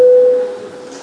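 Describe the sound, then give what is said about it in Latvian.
A loud, steady electronic signal tone sounds for about half a second, then cuts off and leaves a fading ring over soft background hiss. The parliament voting bell rings alone, with no talking, calling a vote on proposal 194. “Lūdzu zvanu, balsosim par 194. frakcijas saskaņu iesniegto priekšlikumu.”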